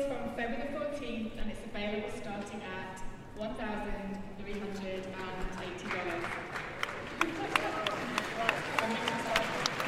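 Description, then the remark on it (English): A voice speaks over a murmuring crowd, then applause swells in the second half: dense, crackling clapping from a sizable audience at a launch event for a folding phone, with a few sharp claps standing out. “Don't applaud for a $1,400 phone.”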